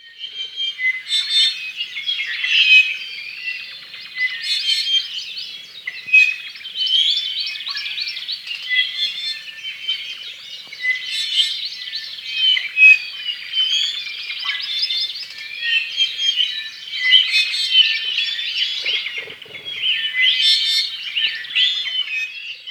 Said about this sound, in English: Yeah, so that was, you know, if you wake up in the forest at Hakalau, you're surrounded by the songs of native birds early in the morning, and that was about 8 different species singing right there